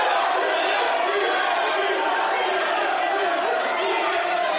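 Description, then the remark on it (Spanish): A dense, continuous roar of many fans shouting and cheering at once at the Donosti (San Sebastián) airport as Paris Saint-Germain and Mbappé arrive, steady and loud throughout, with individual cries of "Kylian" rising briefly out of the crowd noise. “¿Quieren escuchar ustedes el ambiente que había hoy cuando llegaba el Paris Saint-Germain, cuando Mbappé pisaba el aeropuerto de Donosti?”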